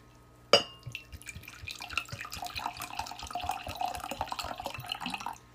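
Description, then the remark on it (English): Still water of medium TDS pours steadily into a glass, a sharp clink at the start followed by a continuous bubbling, splashing trickle with the pitch shifting as the glass fills. “Is it still or sparkling? It is still.”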